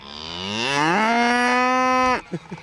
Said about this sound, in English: Hello, Mr. Cow.